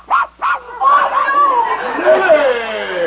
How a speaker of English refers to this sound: get that dog out of here. But I bought it. Get it out. I can't stand it.